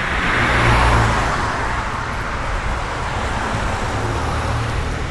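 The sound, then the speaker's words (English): A car passes by on a road, its broad engine and tire rush swelling in the first second, then settling into a steady wash of ongoing traffic noise with no voices. “Traffic is annoying.”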